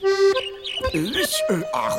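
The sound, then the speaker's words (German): A person imitates a bird with a string of chirpy, swooping vocal sounds, fairly loud, rising and falling in pitch over a couple of seconds. “Er ist ja noch viel niedlicher, wenn er versucht, wie ein Vogel zu reden.”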